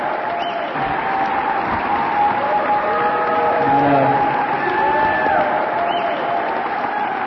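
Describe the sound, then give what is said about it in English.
An audience at Mission High School in San Francisco applauds Jim Hightower steadily for several seconds, a dense, even wash of many hands clapping with a few cheering voices rising faintly through it, holding a fairly loud level throughout. “I am the one who should be applauding you for being out here tonight, fighting for America's democracy to take power back.”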